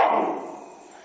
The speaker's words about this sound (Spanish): Sigue ladrando.